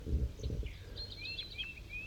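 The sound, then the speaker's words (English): Two birds, one labelled 5-3 and a wild bird up in the top of a dead pine, trade short, high whistled calls at 7:50 a.m., several brief chirps alternating over a second or so, 5-3 slightly higher pitched, following a low rumbling, rustling noise at the start. No one speaks. “and 5-3 and the wild bird are communicating here.”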